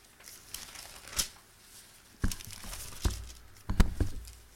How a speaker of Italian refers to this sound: Ma di quale gioia sta parlando? Capitolo 17, giriamo la pagina.